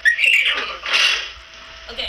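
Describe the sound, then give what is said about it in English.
A girl's voice imitates a horse's whinny: a shrill, high, wavering neigh in two quick bursts, then a softer breathy tail. “This girl makes mimicking animal sounds.”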